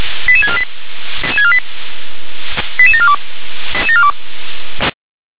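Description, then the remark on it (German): Radio alerting tones from Leitstelle Gera, the Gera dispatch centre, alerting fire brigades to a residential fire with people in the building: four short bursts of rapid, stepped electronic beeps, each falling in pitch, separated by static clicks over a steady hiss on a thin, band-limited radio channel. “Leitstelle Gera, Ende mit Alarmierung.”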